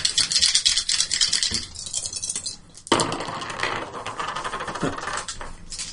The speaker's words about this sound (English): Use my stealthy skill? Yeah. Because I want to roll dice. Roll dice. You want me to roll them? Yeah, roll your stealth. All right.